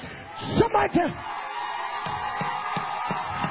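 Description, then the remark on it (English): A crowd answers a call to scream: a few loud, high voices shout and yell in quick bursts, then a steady roar of crowd noise carries on with scattered sharp cries and claps rising out of it. “Somebody scream.”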